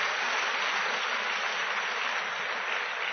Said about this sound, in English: Praise God. Let's give Him a clap of appreciation for the miracle He has done.